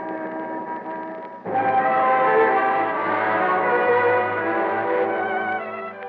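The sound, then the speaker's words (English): A steady, bright shimmer of many little bells on top of a Christmas tree ringing together with no pauses, growing fuller and louder after a moment, then holding. No voices are heard. “Oh, those little bells are just beautiful on top of the tree, Bernard.”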